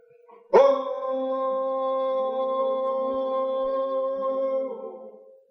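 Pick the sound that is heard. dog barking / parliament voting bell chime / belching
dog barking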